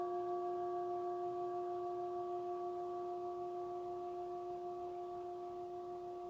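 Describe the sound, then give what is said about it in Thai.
A struck metal plate gong rings out in a long, steady resonant tone with several clear sustained pitches, fading only slightly over about six seconds with no talking, played during a mindfulness meditation practice session. “ในระหว่างที่พวกเราลงมือปฏิบัตินี้เสียงจานเปรียบได้กับเสียงของฝนตกสายลมเสียงของนกร้องสร้างบรรยากาศ”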